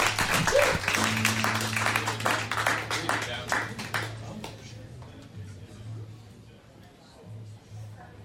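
An audience breaks into applause, a dense burst of many hands clapping that is loud at first, then thins and fades away after a few seconds over a steady low hum.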